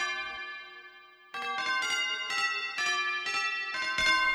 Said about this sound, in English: And the thing that really plays the line is the tubular bells, which are gorgeously out of tune.